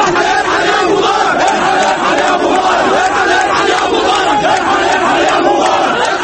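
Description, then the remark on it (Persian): A large anti-government protest crowd in Tahrir Square and along the banks of the Nile in Cairo, Egypt, demanding Hosni Mubarak's resignation, chants and shouts in unison: a loud, dense roar of many voices that stays steady and unbroken throughout, with rhythmic rising and falling calls. “دیروز میدان تحریر و ساحل های رود نیل در قاهره شاهد گردی همایی ضد دولتی بود که طی 30 سال حکومت مبارک کمی در کم مشاهده میشد.”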